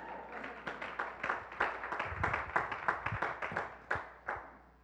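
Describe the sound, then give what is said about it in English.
A crowd claps in a brief burst of applause, sharp overlapping claps swelling quickly and then thinning out to a few scattered hand claps before fading. “You can clap. I won't stop you.”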